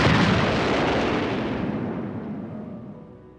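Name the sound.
grenade explosion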